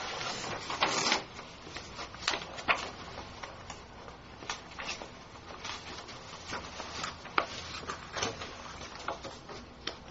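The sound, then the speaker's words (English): A printer printing a copy of a document: a steady mechanical whir punctuated by irregular clicks and short rasping bursts as the paper feeds, with no one speaking. “Mine's on the printer. You can print from there?”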